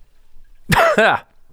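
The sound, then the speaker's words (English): A loud, rasping cough after drinking single malt scotch, two quick bursts of a strained throaty hack with no talking around it, set against a quiet background. “That was a single malt scotch cough.”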